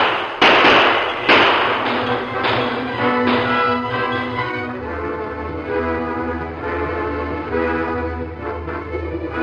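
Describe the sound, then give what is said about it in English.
Several sharp, loud gunshots crack out irregularly over the first half during a train holdup by masked men, then give way to a sustained swell of dramatic orchestral music with no talking. “Use your gun.”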